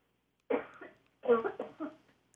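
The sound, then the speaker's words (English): A heavy, chesty cough from a cold: one short burst, a brief pause, then a longer rattling series of coughs with no talking over it. “I am getting over a cold. Will you give me time to have a nice big cough?”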